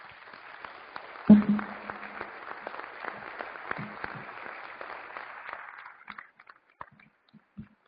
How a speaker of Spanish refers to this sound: Gracias, un aplauso.